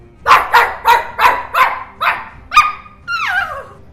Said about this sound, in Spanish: Me encanta cuando estamos todos callados y no se la escuchaba a Marta en todo el día y de repente ladra.